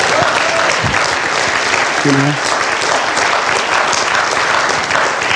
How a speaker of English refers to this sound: And today, I stand before you here as a proud American citizen. That deserves a clap. Come on.